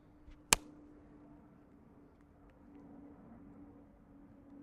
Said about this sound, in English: Yeah, just some slaps in. Yeah, they're great. You're right. Plane. These are really good slaps.